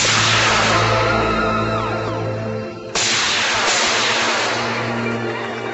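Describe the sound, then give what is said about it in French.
An amateur rocket's powder motor, supplied by the Centre National d'Études Spatiales, roars loudly at launch, a steady, harsh rushing blast with a low droning hum beneath. The noise shifts abruptly midway and keeps going without pause. “Ce sont de véritables bombes volantes équipées de moteurs à poudre fournis par le Centre National d'Études Spatiales.”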